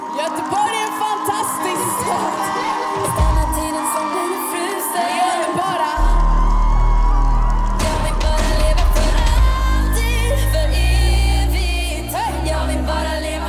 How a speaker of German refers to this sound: Im Publikum kreischende Girls, krasser als auf jedem … Konzert